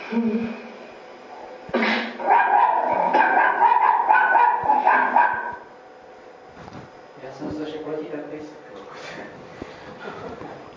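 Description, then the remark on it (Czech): A dog barks and yelps excitedly in a loud burst lasting a few seconds, followed by quieter, fainter vocalizing with people talking in the background. “Takže nemůžeme pejska takhle rozčilovat. To ho hrozně nervuje.”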